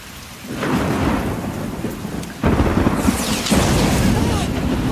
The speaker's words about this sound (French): La foudre vient de s'abattre sur un arbre qui prend feu